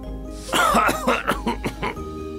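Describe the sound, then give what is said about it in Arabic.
A rapid run of about five or six harsh, dry coughs, fairly loud, as dust flies into Juha's face while he dusts furniture, tumbling one after another before trailing off into a quiet background. “فتطاير الغبار في وجهه وأخذ يسعل ويسعل كخروف أصابه البرد.”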